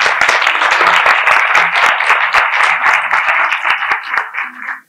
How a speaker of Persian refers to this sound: خودتون رو ویژه تشویق کنید که به امید خدا اولین پارتمون رو شروع کنید.